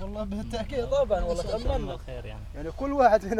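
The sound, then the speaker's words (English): Several sheep grazing amid bedrock outside a tent on a ravaged hill bleat over one another in a steady, wavering chorus, moderately loud, with a low rumble underneath and no clear talking. “Sheep graze amidst the bedrock outside the tent.”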